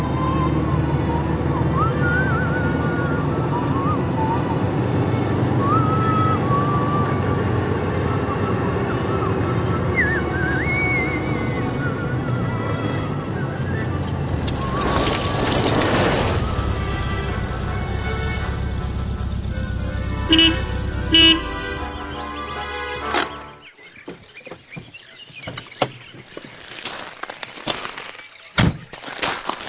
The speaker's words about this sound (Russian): Прошу прощения, профессор, но это же ясно как дважды два. Сначала кто-то едет на машине, потом он приезжает в деревню. Совершенно верно.